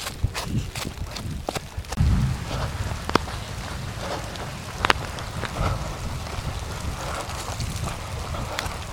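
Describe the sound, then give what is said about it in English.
Gentle, steady rain falls in seasonable weather, a soft continuous patter with scattered sharper drips tapping a surface; no driving rain, wind, lightning or thunder. No one speaks. “It's not a cold, driving rain with whipping wind and lightning or thunder or anything like that.”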